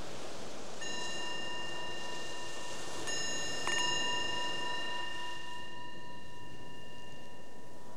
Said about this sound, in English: So the bell invites us to bring our awareness back to the surface.